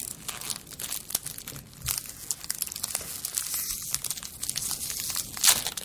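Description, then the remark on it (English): A wrapper of a hefty sea salt caramel candy is crinkled and torn open, a steady run of crisp, bright rustling and crackling with a sharper rip near the end. No one speaks. “I suspect I can eat one of these, if that, because they're hefty. Well, I'm going to jump in. Mine's open.”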